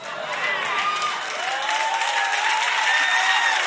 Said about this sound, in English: Y'all sound a little too excited about that. Kind of sketchy how much y'all clapped about that.